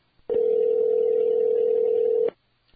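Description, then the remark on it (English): A phone call is hung up with a click, then a steady, loud, mid-pitched dial tone drones for about two seconds before clicking off. No one speaks. “As soon as I wiped my keyboard, you hung up.”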